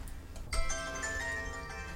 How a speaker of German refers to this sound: Rolfs Mobiltelefon wird nicht zum letzten Mal läuten. Mal ist es ein langgezogenes Zischen. Kundschaft. Bei privaten Anrufen piepst es rhythmisch.